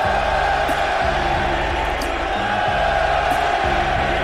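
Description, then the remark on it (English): A large crowd at a baseball game at Wrigley Field in Chicago roars and cheers steadily after Horner singles and Tucker walks, a dense, sustained wash of many voices that stays loud throughout, with a faint rhythmic pulse underneath like chanting or singing. “Bush struck out, but Horner has singled, Tucker has walked, and the crowd is roaring.”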